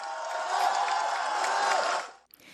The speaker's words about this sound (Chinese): 大声的拍手掌为我们狱中的朋友致敬，大声点。